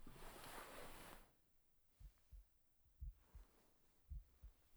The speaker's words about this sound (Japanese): ママの心臓の音、ドクンドクン。